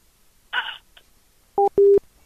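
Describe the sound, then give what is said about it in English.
A phone call cuts off as the other person hangs up, with a brief rattling clunk of the receiver, followed by a loud busy tone: a short electronic beep, then a longer steady one. No one speaks. “She hung up on me.”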